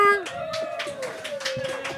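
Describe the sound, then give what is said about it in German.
Thin, sparse applause for Rappenburger: a handful of hand claps in a loose, steady rhythm, fairly quiet, with a sustained voice holding a tone underneath. “Okay, der Applaus ist wesentlich weniger laut.”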